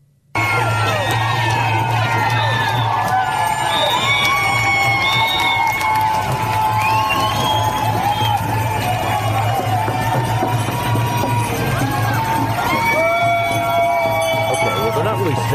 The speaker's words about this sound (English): Yelling, and they're obviously making a lot of noise about being angry about the vaccines.